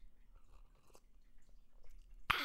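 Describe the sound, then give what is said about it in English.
Someone sips coffee from a cup: soft, wet mouth and lip sounds scattered over a couple of seconds, ending in a sudden louder, sharp burst. “Let me have a sip of my coffee.”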